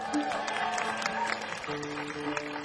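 An audience applauds steadily, a dense wash of many hands clapping at an even level throughout, with some crowd voices and cheering mixed in.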